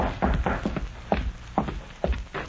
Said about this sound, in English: Then, one evening, long after darkness had fallen, the sheriff heard a soft rap on the door of his home.